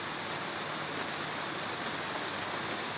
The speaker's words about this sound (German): So klingt dort der Regen.